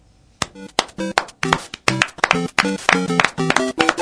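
An audience in the applauders' stand (tribuna de aplaudidores) applauds in a steady, rhythmic pattern: a run of sharp, fairly loud claps, about three or four per second, starting after a brief quiet moment, with no voices.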